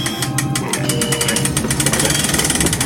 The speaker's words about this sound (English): I'll raise the door manually.